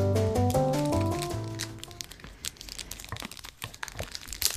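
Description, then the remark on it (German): A short tonal jingle of stepped notes fades out, then the wrapper of a Franzbrötchen snack bar crinkles as it is opened, in quick, irregular rustling bursts that continue to the end with no talking. “Doch raschelt's.”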